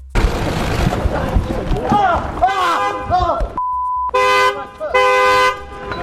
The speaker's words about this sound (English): Mind the gap. There's a car coming in. Mind out of the way.